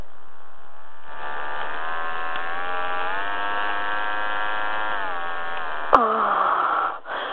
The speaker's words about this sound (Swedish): Lyssna för att höra när dildon vibrerar.